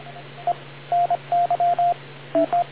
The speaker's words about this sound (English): Sorry, I just wanted to make sure that music stopped. Phone call.